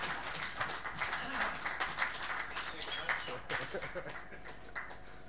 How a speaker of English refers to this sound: He's come all the way down from Jarrow, so here's your Father's Day present, and if we could just give him a round of applause.